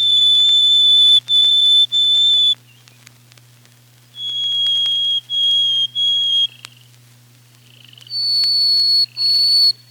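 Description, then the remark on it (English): A Harris's sparrow sings three phrases of long, clear, pure whistles in a minor key, each held on one steady pitch, the last phrase pitched higher, loud over a faint low hum. “Harris's sparrow whistles in a minor key.”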